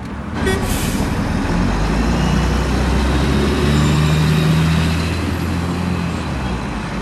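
Steady rumble of street traffic beside a bus stop, with a heavy engine idling and passing vehicles, a continuous roadside din without any voices.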